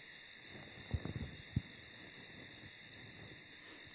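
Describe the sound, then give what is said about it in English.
Crickets chirp in a steady, continuous chorus, a high pulsing trill that never lets up, with a couple of soft low thumps near the start and no voices. “I'll get rid of the crickets”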